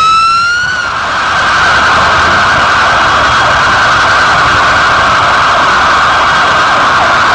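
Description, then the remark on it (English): A police car siren blares loudly as it passes, its tone climbing at first and then holding a steady piercing wail over a dense wash of street and traffic noise; nobody speaks. “The cops are making most of the noise.”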